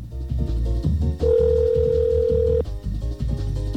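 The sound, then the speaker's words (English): A telephone line rings on an outgoing call to the MTA Bridges and Tunnels E-ZPass Service Center: one steady, mid-pitched ringback tone lasting over a second, loud above a low, busy background murmur of other sound, with no voices. “Okay, 9X strikes again. Let's try this one more time.”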